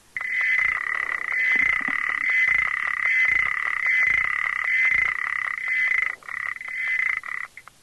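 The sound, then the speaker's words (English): A male frog gives a steady, high-pitched trilling call while a female ticks softly at regular intervals; near the end his call falters into broken bursts and tapers off, as the female's ticking makes the male stop calling. “Yeah, so that's what happens to a male when a female ticks.”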